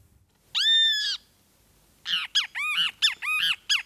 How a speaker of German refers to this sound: So klingt es, wenn der Schwefelmaskentyrann tagsüber sein Lied trällert. Der kleine Vogel mit gelbem Bauch und schwarzen Streifen um die Augen zählt zu den sogenannten Schreivögeln.